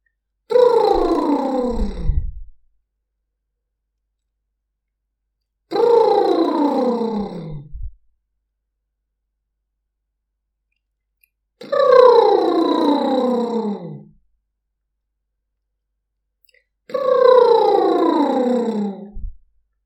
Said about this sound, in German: Die Knie sind weiter locker, Sie atmen durch die Nase ein und lassen Ihre Lippen sprudeln.